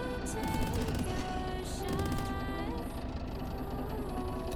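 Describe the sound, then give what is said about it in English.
Booming video game boss cannon fire in a dense, chaotic battle mix, with rapid bursts of blasts and mechanical rumble running steadily throughout at a loud level. “Flip over to the other side. Oh shit, the cannon.”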